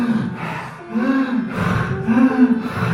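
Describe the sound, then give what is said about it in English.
A voice imitates heavy, hysterical breathing: loud, ragged gasping breaths with a tonal, sobbing edge, repeating in rough surges with no words. “This is called heavy breathing. Maybe it's hysteric breathing, but heavy breathing is more.”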